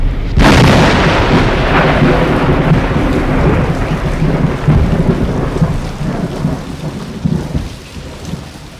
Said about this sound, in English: It speaks in the whistling wind that bends trees under a stormy sky.